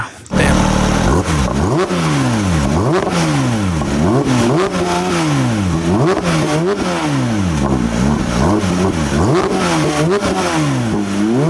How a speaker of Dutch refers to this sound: Nog maar even naar dat motorgeluid.